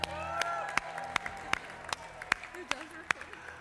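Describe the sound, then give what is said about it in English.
A crowd claps together in a steady, even beat, about eight sharp loud claps in a row, after blowing out candles, while voices murmur and call out underneath. “And then we're going to clap.”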